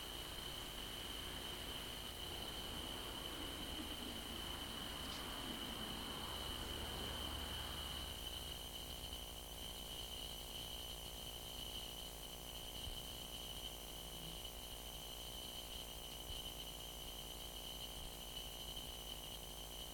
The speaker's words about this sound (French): Je les mets, les grillons de la Perrière, et puis vous nous en commenterez juste après. Voilà. Le temps de se remettre en place tous. La nuit, parce qu'il y a de très beaux grillons qui sont juste derrière la maison.